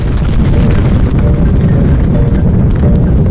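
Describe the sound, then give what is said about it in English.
A massive explosion over Siberia at Tunguska, 100 times more powerful than Hiroshima, booms and rolls into a loud, sustained deep rumble that roars steadily for several seconds, heavy in the low end, with no voices over it. “A blinding flash lit the Siberian sky. The explosion was 100 times more powerful than Hiroshima.”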